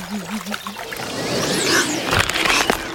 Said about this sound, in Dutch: Ze maakte een wandeling langs het meer. Toen ze haar handen even in het water stak om af te koelen